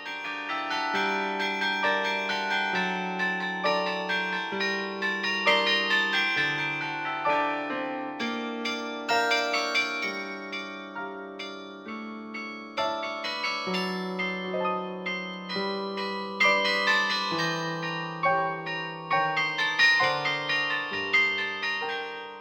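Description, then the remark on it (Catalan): Carillon bells ring out a steady melody, many overlapping struck tones with long shimmering decay, played continuously at a moderate pace with no voices present. “podríem dir que entre aquests que són els Emony i els actuals doncs, hi ha una diferència de sonoritat històricament parlant, però també són dels millors, sí.”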